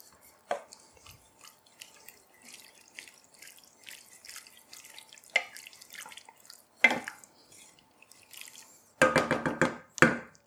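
Light clicks and soft liquid dribbles as 4 tablespoons of heavy cream are poured into a pan, then a spoon scrapes and stirs it in a few loud bursts near the end. No one speaks.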